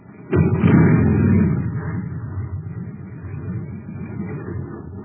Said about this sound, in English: A jet cycle has just pulled into a filling station to get its tank filled. The man has it filled with ordinary fuel. Listen.